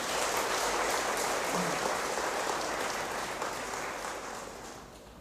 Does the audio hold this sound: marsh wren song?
no